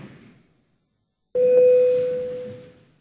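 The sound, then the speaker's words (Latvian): After a brief pause, a single loud electronic bell tone sounds in the Latvian parliament, called for by the chair before a vote on amendments to the electronic communications law, and holds steadily for about a second and a half, slowly fading out. “Paldies, lūdzu zvanu.”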